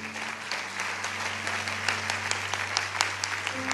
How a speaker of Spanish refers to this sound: ¿Qué tal si damos un aplauso, Señor?